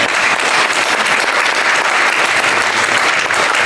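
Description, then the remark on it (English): An audience at Country Day school breaks into loud, sustained applause, a dense steady wash of many hands clapping at once with no pauses and no one speaking over it. “Let's clap that up.”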